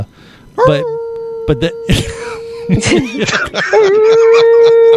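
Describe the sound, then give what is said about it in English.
Dogs in a studio howl in long, wavering tones, broken up by sharp barks and yips, with the howling swelling again at the end. People talk underneath the noise. “Yeah, we have dogs in the studio today”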